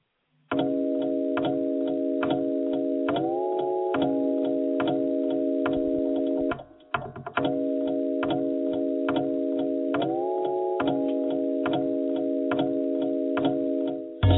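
A steady hip-hop beat built on a ticking clock sample, with sustained synth chords over a regular kick-and-snare rhythm, loud and continuous except for a brief dropout midway.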